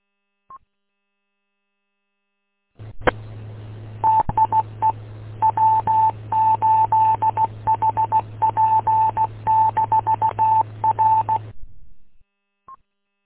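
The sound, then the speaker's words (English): Morse code comes over a radio from a station answering a call on a radio net: a single steady high beep keyed on and off in quick dots and dashes for about eight seconds, over a constant low hum, with no voices. “Okay, I got the Morse code, but nothing heard on him.”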